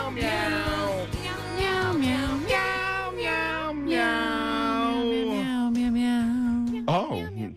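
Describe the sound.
A human voice sings a song entirely in drawn-out, imitated cat meows for a guess-the-song game, loud, with sliding pitches running continuously for several seconds before a brief final yowl.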